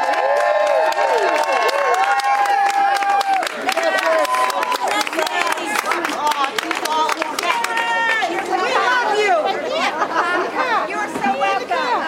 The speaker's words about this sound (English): outside the courthouse these past couple of days, the crowd has been growing and growing and growing. And it's all a heaving sea of people in pink, you know, supporters of Karen Reed.